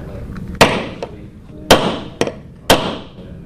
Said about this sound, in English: at Ocean Lakes High School in Virginia Beach is making a mousetrap car, and there's a lot of sawing and nails and talk of wheel alignment involved.